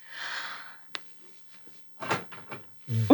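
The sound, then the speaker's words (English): A brief whooshing sweep ends in a single sharp latch click as a door shuts, followed by a quiet pause before voices start talking. “I thought, did the door shut? It shut already.”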